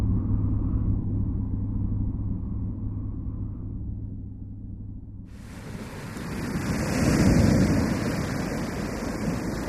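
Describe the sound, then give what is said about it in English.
Ocean waves at a beach beneath the century-old Normanville Jetty, heard from the sand: a low, steady rumble of surf, then a wave breaks and washes in with a broad, loud hiss that swells and slowly recedes. No one speaks. “I'm sitting on the sand beneath Normanville Jetty, looking out to the ocean.”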